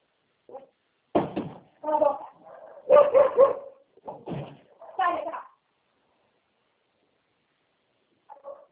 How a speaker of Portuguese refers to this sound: Não, tudo bem, eu estou vendo o cachorro latindo aqui fora, aqui por mim.